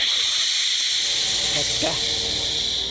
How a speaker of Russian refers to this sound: Это шуршит змеиная кожа. Или Накали Нагайна. А может быть, они оба ползут по досточному желобу в ванную?